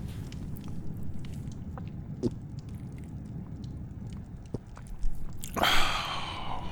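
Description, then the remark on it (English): Mouth noises: soft wet clicks and gulps over a low rumble, then a louder slurping sip near the end as someone drinks and swallows. “Let me get a sip of that, bud.”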